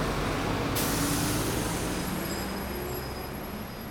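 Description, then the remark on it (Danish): Steady rumble of busy street traffic at a large crossroads on Lygten, on the border between Nørrebro and Nordvest, with streams of bicycles, buses, cars and pedestrians. Early on comes a sudden loud hiss like a bus's air brakes releasing, with faint high whines lingering above the din. “Lygten er opkaldt efter Lygteåen, der for længst er gået under jorden, hvor den løber i lange rør, mens trafikken bevæger sig i raskt flow over asfalten i stimer af cykler, busser, biler og gående.”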